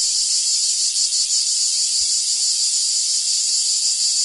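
A cicada's shrill, continuous buzzing drone rings out loud, holding steady for several seconds without pause, with no voices present.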